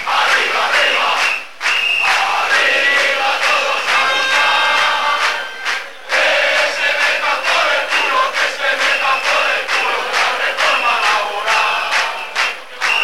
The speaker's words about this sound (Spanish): Tanto en unos sitios como en otros, los trabajadores han gritado consignas en contra de la liberalización del sector ferroviario, el gobierno y la reforma laboral.